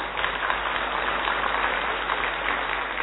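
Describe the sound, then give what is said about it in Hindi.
A crowd claps steadily for about three seconds, a dense, even patter of many hands at a moderate level with no voices over it. “ताली नहीं बजाते हैं,”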